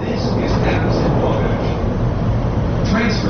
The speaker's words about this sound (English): We're aboard a Chicago Transit Authority elevated train heading for Chicago's downtown center, known as the Loop.